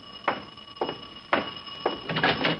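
A doorbell stuck ringing, a steady electric tone droning throughout, broken by five harsher, louder bursts arriving roughly every half second. No voices.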